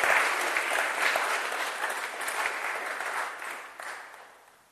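Sustained audience applause, a dense wash of many hands clapping that holds steady and then gradually fades out toward the end, with no talking over it.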